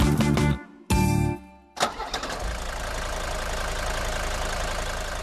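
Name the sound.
diesel engine running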